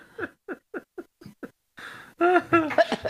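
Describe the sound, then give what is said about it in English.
A woman coughs in a quick rhythmic series of six short, sharp bursts, followed by a rougher, louder wheezing fit with strained vocal tones. “She's got such a lovely, sexy cough.”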